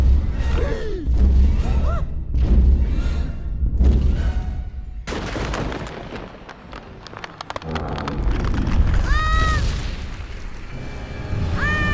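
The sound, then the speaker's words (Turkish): Heavy, booming thuds of a huge adult dinosaur's footsteps stomp down, one landing right beside a young animal, amid a continuous deep rumble, with sharp rising squeals and cries cutting through in the second half. “Kocaman bir hayvanın ayağı yavru domuzun tam yanına indi. Bu gelen yetişkin bir dinozor.”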